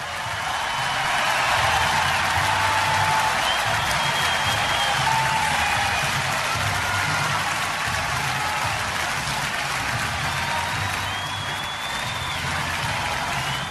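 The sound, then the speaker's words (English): A large stadium crowd at Wrigley Field cheers and applauds steadily, welcoming the Chicago Bears 2021 draft picks Justin Fields, Thomas Graham Jr. and Khalil Herbert, a dense, continuous wash of clapping and roaring with occasional whistles rising above it, staying loud throughout. “If it was just like an okay cheer.”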